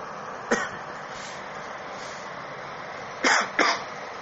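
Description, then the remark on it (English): A short cough is followed a few seconds later by two quick, louder coughs, all over a steady background hiss with no talking. “Oh, sorry about that, folks. I had to cough.”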